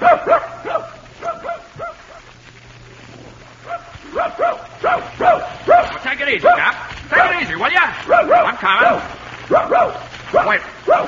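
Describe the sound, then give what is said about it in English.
A dog named Hap barks excitedly as it sets out to hunt rabbits, in quick, repeated bursts of loud, mid-pitched woofs. The barking comes in clusters with short pauses and grows busier and more insistent toward the end. “Okay, suppose I get my gun and my dog and we look for a couple of rabbits, huh?”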